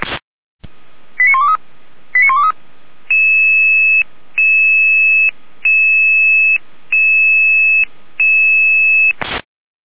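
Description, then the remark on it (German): Fire brigade dispatch alerting tones: two quick warbling chirps, then five loud, evenly spaced electronic beeps, each held about a second with short gaps, clear with no voices. “Hier noch mit Alarmierung.”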